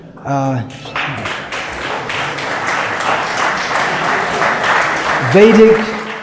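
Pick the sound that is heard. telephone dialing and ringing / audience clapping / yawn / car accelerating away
audience clapping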